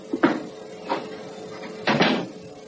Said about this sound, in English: Please close the door behind you.